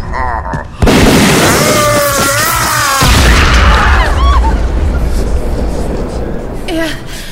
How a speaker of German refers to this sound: Er ist explodiert!